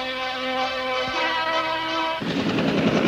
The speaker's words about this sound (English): Pope John Paul touching down in San Francisco. The helicopter has landed. Now, what's going to take place,